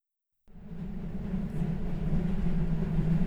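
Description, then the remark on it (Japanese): After a brief moment of silence, the steady low rumble of a commuter train ride sets in and holds, a continuous droning hum with faint rattling, moderately loud, with no voices. “被害者、電車通勤の OL。”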